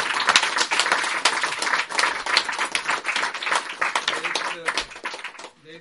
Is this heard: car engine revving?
no